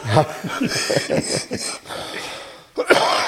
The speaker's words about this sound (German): Ja, mit diesem Husten beenden wir diesen Podcast